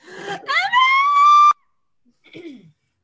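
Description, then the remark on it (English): A voice performs a loud, hysterical, blood-curdling shriek coming from downstairs that climbs sharply and holds a piercing pitch for about a second before cutting off, followed by a brief, fainter descending wail. “you hear a hysterical, blood-curdling shriek coming from downstairs”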